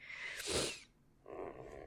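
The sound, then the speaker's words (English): Two soft, breathy sniffles, the first a sharper hissing intake and the second a longer, airy draw through the nose after a short pause, with no talking. “Minus the sniffles, I apologize for the sniffles.”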